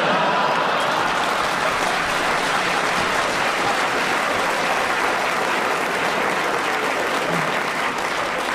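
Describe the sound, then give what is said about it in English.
An audience claps steadily for several seconds, a dense, even wash of many hands with no pauses and no voices standing out. “Oh, you are wicked to clap that, aren't you?”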